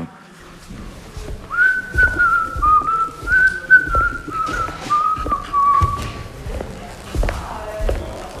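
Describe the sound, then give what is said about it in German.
A person whistles a slow, wavering melody of sustained notes lasting several seconds, clear, over a background of regular thumping steps or taps. “Also, welche Promis können pfeifen?”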